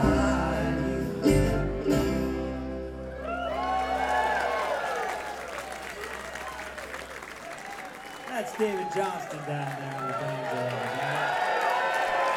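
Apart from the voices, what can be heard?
audience applause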